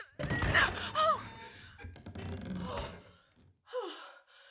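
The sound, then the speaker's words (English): A heavy thud and scraping burst of noise as a front door is forced open, followed by gasps and breathy vocal sounds, fairly loud. “I'm sorry to burst in like this.”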